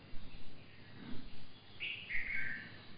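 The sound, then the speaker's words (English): A couple of bright bird chirps ring out in the second half, high and clear over a soft, rumbling outdoor background of vehicles going on a road. “Chirping of the bird.”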